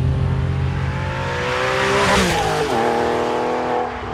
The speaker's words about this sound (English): Better yet, how it behaves on the next acceleration. Speed isn't the only impressive feature of the 911, but the way it accelerated was amazing. In an instant, I was pressed back into the seat as the car quickly and smoothly got up to speed.